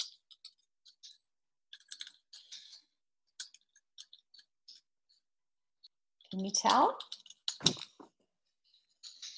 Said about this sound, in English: Is that a campfire? It is a campfire.